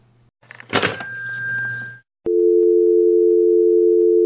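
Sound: phone dial tone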